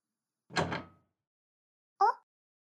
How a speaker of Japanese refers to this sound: ドアを内側からロックしてっと。